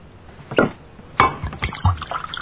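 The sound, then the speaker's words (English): A drink is poured into a glass, with a couple of sharp glassy knocks followed by a short run of splashing, gurgling liquid and faint clinks. “Does anyone want a drink?”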